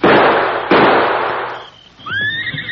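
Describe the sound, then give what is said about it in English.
Two loud rifle shots crack in quick succession at masked men on horses about 50 feet away, each trailing off in a long rumbling decay, then a horse lets out a high, wavering whinny. “You can't miss. Not with these rifles.”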